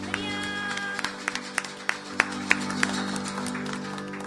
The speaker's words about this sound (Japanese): もう一度ご臨在の主に感謝の拍手を捧げましょう。